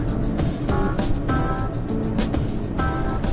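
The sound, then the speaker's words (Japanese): A young child's voice imitates a car engine with repeated, steady buzzing and revving sounds while holding snacks like a steering wheel. There is no clear speech. “今も後ろでまだまだお菓子を持ってハンドルのようにブーブーしてますけど、あ、食べましたね。”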